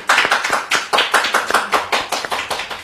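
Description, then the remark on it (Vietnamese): An audience applauds steadily, many hands clapping in a fast, even rhythm with sharp repeated bursts, fairly loud, with no one speaking, as a warm welcome on the 13th Sunday in Ordinary Time, 26 June 2022. “Chúng ta cùng hân hoan đón chào nhau một tràng pháo tay nồng nhiệt.”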